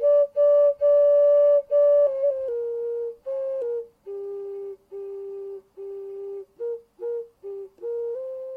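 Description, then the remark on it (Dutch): A nose flute played by a virtuoso, in a recording that opens a daily radio broadcast, plays a simple melody in pure, whistle-like tones: long held notes at first, then shorter notes stepping lower, separated by brief pauses. No one speaks. “En dat is een virtuoos op de, komt-ie, neusfluit.”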